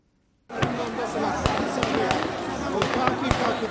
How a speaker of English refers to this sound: Gunfire in the heart of Sudan's capital, Khartoum. Armed men in uniform fired in the air and at protesters at an ongoing mass sit-in Monday night, killing several and wounding dozens.